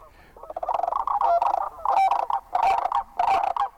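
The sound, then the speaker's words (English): A flock of sandhill cranes calls loudly, their rolling, trumpeting rattles overlapping in bursts with no pauses. No one is talking. “Yeah, back in the 1930s, Aldo Leopold, the famous ecologist, did his own little survey of sandhill cranes and estimated that maybe only 300 remained in Wisconsin he could find.”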